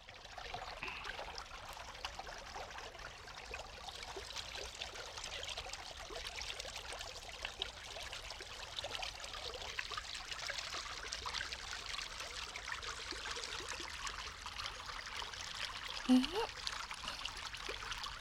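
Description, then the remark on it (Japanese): A natural river in a forest or mountain area, not fast-flowing, runs steadily and gently, its broad watery rush and soft trickling babble continuing evenly throughout, with no voices present. “これは川の流れの音ですね。”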